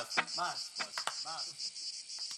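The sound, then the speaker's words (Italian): A steady, shrill cicada buzz drones throughout, while a few sharp clicks and short warbling bursts break in over it at moderate volume. “asciuta sta cicala.”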